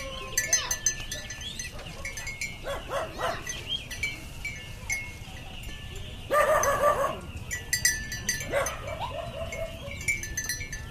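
Cow bells clink and jingle steadily in the courtyard of a farmhouse beside the rice paddies of Prenang, Cambodia, in the morning, while waking dogs bark in a few short, loud bursts, with faint animal sounds in the background.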